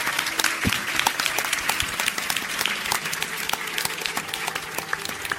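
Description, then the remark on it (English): A crowd at a BioWare panel bursts into sustained applause, dense clapping filling the whole stretch at a steady loud level, with scattered cheers mixed in and no one speaking over it. “They don't randomly erupt into applause and cheers.”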